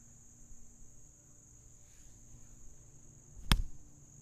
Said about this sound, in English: Fucking trying to kill these mosquitoes. I am so powerful. I put mosquitoes in their graves, son. Mosquitoes, when they find me, they just run. Actually, that's not true. They fucking love me, dude. I've been getting eaten alive these past few weeks.